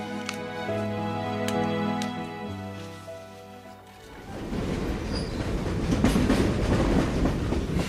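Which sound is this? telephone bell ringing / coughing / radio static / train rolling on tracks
train rolling on tracks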